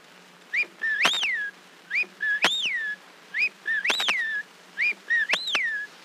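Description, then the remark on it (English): A person whistles an imitation of an English whippoorwill call on an Edison Records recording, repeating a rising, swooping phrase four times in a steady rhythm, clear with soft hiss behind it; no speech. “…”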